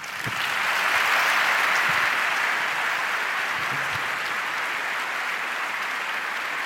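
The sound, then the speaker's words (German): Sustained audience applause after a talk, a dense wash of many hands clapping at steady volume from start to finish with no voices standing out. “euer Applaus.”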